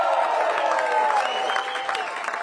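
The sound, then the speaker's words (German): A crowd of party supporters in Germany cheers and applauds after the European election results, dense steady clapping mixed with shouts and raised voices, loud and sustained for the whole stretch without a pause. “in Deutschland dürfen ja vor allem zwei Parteien jubeln.”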